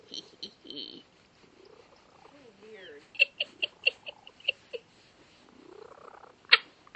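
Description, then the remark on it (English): A male cat purrs, a rumbling stream broken into a run of rhythmic pulses, mixed with short squeaky chirps and sliding murmurs. “And he's purring away like he hasn't got a care in the world.”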